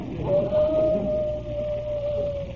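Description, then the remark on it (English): A single long, wolf-like howl, a wife calling, holds one steady pitch for about two seconds, fairly loud, over a soft hissy background with no speech. “My wife's calling me. It sounds like a wolf.”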